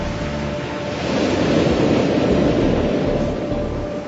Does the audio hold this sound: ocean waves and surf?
yes